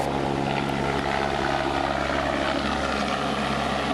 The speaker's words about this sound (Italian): Gli elicotteri hanno preso a volare e a portar giù la gente.